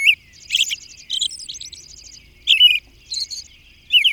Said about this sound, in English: Then, as evening comes on, the same robin interweaves these phrases with exquisite whisper-like notes from its personal treasury of 75 to 100 different whispered notes. The potential song variety is amazing. The musical results, enchanting.